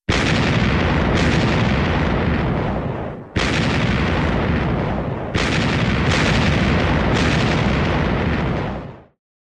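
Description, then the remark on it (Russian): Booming artillery salute volleys fire in Leningrad in honour of the troops of the Leningrad Front, in loud overlapping bursts, each sharp blast rolling into a thick, sustained rumble before the next round cracks out, with no one speaking. “Город Ленина салютует доблестным войскам Ленинградского фронта.”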